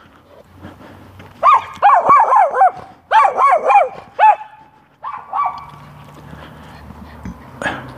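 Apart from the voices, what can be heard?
dog barking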